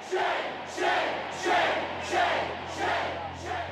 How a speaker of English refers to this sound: Tens of thousands of people show up in downtown Madison for weeks. Every day you hear crowds chanting.